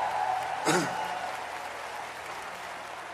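A church audience applauds to recognize the pastor's wife and the pastoral staff, with steady, dense clapping that fills the whole stretch, swelling briefly early on before settling into an even wash of hand claps.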